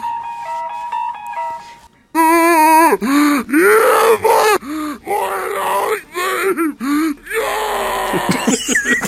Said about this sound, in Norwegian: De er så bra, de skrikene der. Som er alle varianter av headcrabs og headcrab-zombier fra Half-Life-serien.